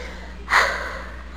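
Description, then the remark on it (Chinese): A single heavy breath from a child asked to breathe while being listened to in a doctor check, a sharp, breathy rush of air that swells quickly and trails off, like a deep huff or snort, with quiet background before and after. “喘气来。”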